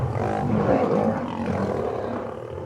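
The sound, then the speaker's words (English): Three male lions scuffling nearby at sunset, in hills above the city of Oakland: a continuous deep rumbling roar with growling texture that swells and wavers without pause, loud and low-pitched, no voices present. “Those are lions tussling.”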